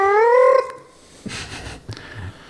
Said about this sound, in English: his fucking possessed, like, cat noises that he comes up here and does at 3 in the morning.